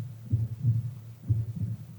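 A slow, muffled heartbeat thuds twice in a steady lub-dub rhythm, deep, with a low hum underneath and no voices.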